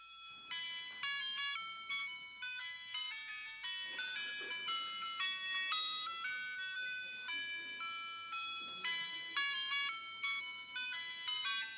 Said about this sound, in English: What do you think that is? Ice cream truck. That's exactly right. When we were little, most of us, we'd hear that, we'd just go, right? That was solid temptation, an ice cream truck.